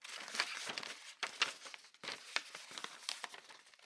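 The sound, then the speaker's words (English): Soft crinkling and rustling of a crumpled ball of wrapping paper and torn tape on the floor next to a bookshelf, coming in several irregular bursts of papery crackle with brief pauses between them, and no voices. “A rustle.”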